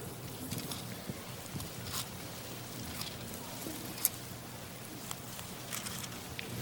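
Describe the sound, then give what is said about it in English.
Many Bible pages rustle and flick at once as people turn to Acts chapter 28, a steady papery patter of overlapping soft swishes with a few sharper crisp turns standing out; no one speaks. “I do love the sound of the pages turning.”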